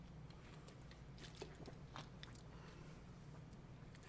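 A preacher pauses during a sermon to sip water and swallow, with a few soft wet mouth clicks and gulps over a low steady hum. No one speaks.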